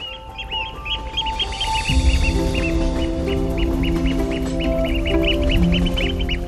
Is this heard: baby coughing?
no